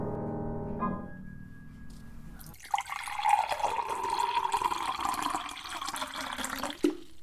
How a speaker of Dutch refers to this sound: Dus als je een glas met water tot de helft inschenkt en je zegt dat dat glas half leeg is, dan ben je een zwartkijker of dan word je als een zwartkijker gezien?